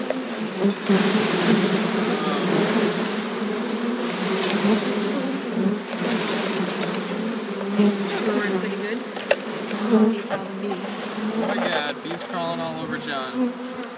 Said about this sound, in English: There's the queen. Mm-hmm. Okay. She's alive. Put her in the center. The bees can get at her and feed her. Okay, I'm gonna dump them in. Here we go.